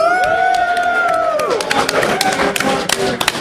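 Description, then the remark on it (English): An audience cheers during a crowd vote between contest entries, with loud sustained whoops that glide downward and fade, followed by scattered clapping and sharp taps over a steady crowd murmur. “Well, apparently you people do not vote like you cheer.”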